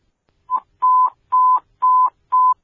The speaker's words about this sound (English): Evac the structure at this time. Evac the structure. Give me evac tones.